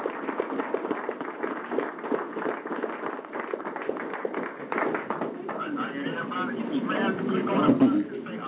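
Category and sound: crowd, audience applause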